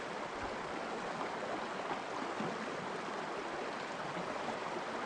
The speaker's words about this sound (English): You can begin by imagining that it's your favorite time of year and you find yourself somewhere very beautiful. Maybe in an open meadow, or some beautiful woods with a creek nearby.